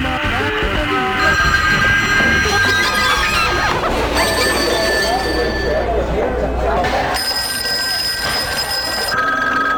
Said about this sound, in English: Almost every movie has a phone scene, and I mix all these phone conversations to create this sort of abstract, absurd conversation.